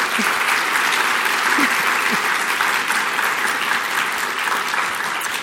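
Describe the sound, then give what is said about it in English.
A crowd claps steadily, a dense, even wash of many hands that holds loud and constant throughout, with a few faint voices mixed in, applauding the staff and volunteers before an author event. “And you can give applause for all of those fantastic people.”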